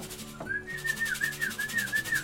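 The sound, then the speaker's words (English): A person whistles a steady, gently warbling tune with a slight wavering pitch, lasting nearly two seconds over a faint background hum. “Just give me a whistle.”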